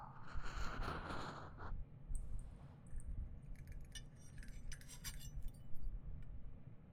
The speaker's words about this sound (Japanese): 鐘を叩いて震えさせ、音と振動で刺激すると、なんとも不思議な音じゃの。